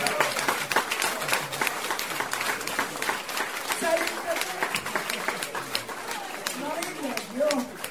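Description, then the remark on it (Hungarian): An audience claps steadily for about eight seconds for a woman who worked upstairs and cut up her coat to provide a rag, a dense, even patter of many hands at a fairly loud level, with scattered voices calling out over the applause. “Tapsan hölgynek!”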